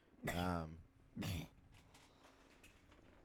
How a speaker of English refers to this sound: Yeah, dude. Cough it up. I just felt like I had something in my throat. Bro, hairball.